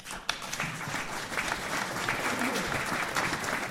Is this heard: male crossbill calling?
no